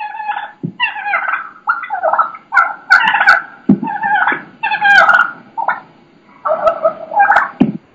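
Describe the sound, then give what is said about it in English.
Wild turkeys purr and cluck loudly in rapid, agitated bursts while dull thumps and scuffling mark them beating on a decoy, with no one talking. “They're beating on my decoy. You can hear that.”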